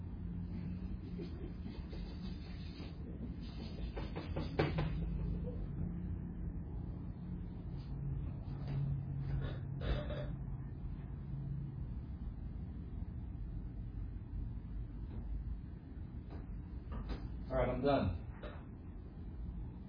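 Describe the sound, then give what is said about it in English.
A wooden easel creaks and squeaks in a few short bursts, with a louder, higher squeal near the end, over a low steady rumble and some faint background voice. “I want to thank Christ for building me this nice easel. This nice, squeaky easel.”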